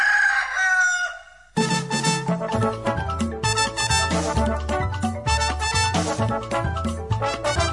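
A single loud rooster crow rings out at the start, then a full band bursts in with steady rhythmic music that carries on to the end.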